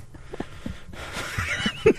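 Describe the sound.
A voice imitates heavy breathing in someone's ear: a breathy, wheezing exhale grows into a strong, noisy rush of air lasting over a second, with a short vocal catch near the end.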